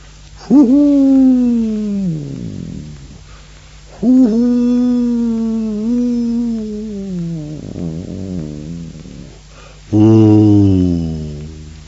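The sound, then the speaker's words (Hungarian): A human voice, with both palms raised to the mouth, imitates a howl over snowy mountain ridges with three long, deep, drawn-out calls. Each swells loudly, then slides downward in pitch and trails off into snow-covered forests, with short quiet gaps between them. “A vonyításszerű nyújtott mély hang végig ívelt a gerincek fölött.”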